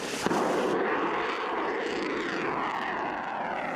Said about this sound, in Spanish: Y tercero esto, misiles de más alcance.